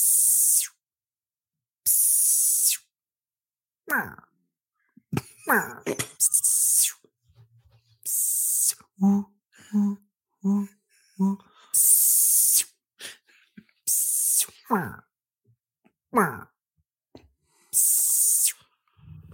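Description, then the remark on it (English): A single voice imitates rainforest ambience, close and fairly loud, with sharp hissing bursts like spray or rain, quick rising whistled chirps, and a short run of rhythmic voiced hoots in the middle. “This is a rainforest.”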